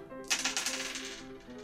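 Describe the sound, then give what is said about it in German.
A single die clatters across a hard surface in a quick burst of rattling clicks that bounce and taper off within about a second, distinct over a faint steady background hum; the die is rolled again for a dexterity check in a tabletop role-playing game after it fell down. “Ist der Würfel runtergefallen? Machen wir nochmal.”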